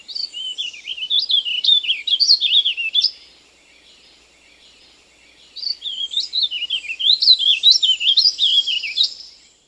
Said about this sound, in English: And since the bird usually stays high in the trees, the warbling vireo is often difficult to locate and identify until it sings. The loud warbling song is very distinctive.